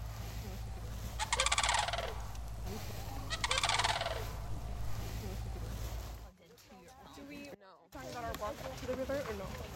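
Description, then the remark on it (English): Sandhill crane calls: two loud, rolling, rattling bugles about two seconds apart over a steady low rumble, followed by a few seconds of people talking. “But the sound, I would have to say the sounds of sandhills.”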